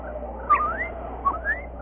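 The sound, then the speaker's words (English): Song of a blue and crimson bird: two clear, rising whistled notes about a second apart, each sliding upward into a bright chirp, with no talking. “And now, oh, look. A bird. A beautiful blue and crimson bird.”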